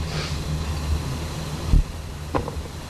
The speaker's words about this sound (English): Here in the middle of the afternoon, the cars are going home. It won't be long now, they'll be going home. Maybe they're going home now.